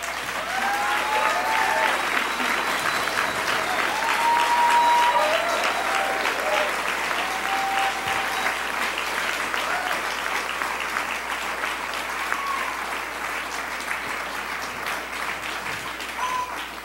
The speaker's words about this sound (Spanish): Si tenemos la capacidad de asombrarnos por las obras de teatro y las canciones y los poemas que han levantado los compañeros y compañeras, para quien ahora mismo pediría un fuertísimo, fuertísimo aplauso.